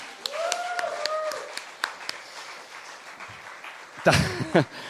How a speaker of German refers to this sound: Hier mal einen kleinen Applaus für meine Homies.